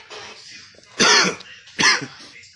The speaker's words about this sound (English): Excuse the coughing. I just took my medicine.